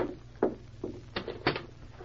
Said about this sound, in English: Open the door.